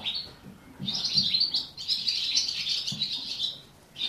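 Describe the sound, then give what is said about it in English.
Birds sing in a bright, high-pitched dawn chorus of rapid chirps and twittering trills, nearly continuous with a few short pauses, over a faint low rustling background. “And these are the first ones of the morning, just singing.”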